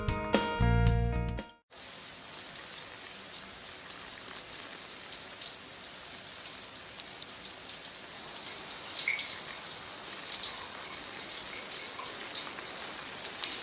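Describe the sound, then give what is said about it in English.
A steady hiss of shower water runs continuously with fine droplet patter, following a brief snatch of music at the very start. “I really like the shower.”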